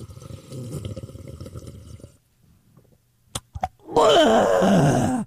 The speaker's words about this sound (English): Hold on just one moment, please. Here goes the sip of coffee.